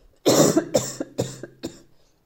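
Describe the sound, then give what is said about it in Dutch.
A short fit of about four harsh coughs, caused by too much ginger in tea caught in the throat, the first the longest and loudest, the rest coming in quick, fading bursts, with no talking. “Ik ga even hoesten hoor, sorry.”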